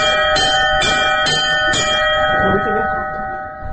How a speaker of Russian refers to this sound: люди сами уже пробуют звонить во все колокола